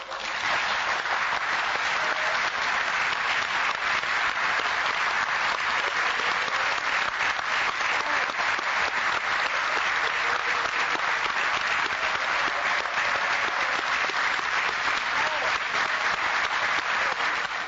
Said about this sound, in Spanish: Escuchemos el aplauso futbolístico, futbolero